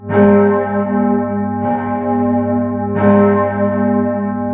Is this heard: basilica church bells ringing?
yes